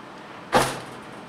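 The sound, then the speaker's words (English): A small pile of gunpowder ignites with a single soft thump and a brief hissing rush that fades within a fraction of a second, standing alone after a moment of quiet. “That little thump noise, I never get tired of that.”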